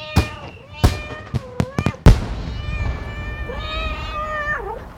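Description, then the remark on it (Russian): Kittens meow repeatedly, high-pitched, punctuated by a quick series of sharp firework-like pops in the first two seconds, then a long drawn-out meow that bends downward at the end; presented as a fireworks display of kittens in Irkutsk on City Day. “Фейерверк в городе Иркутск на день города котятами.”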